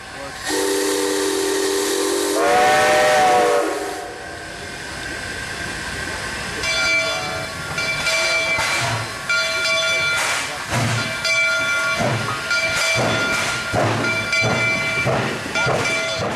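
A steam train's whistle blows loud and long, bending upward in pitch, then the engine pulls away with bursts of hissing steam and rhythmic chuffing.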